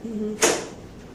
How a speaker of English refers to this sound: That was just the door.